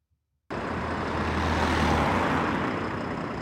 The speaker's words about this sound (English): In Bethlehem, this bus is loading up with passengers to take them to work in Jerusalem, but they may already be late for work.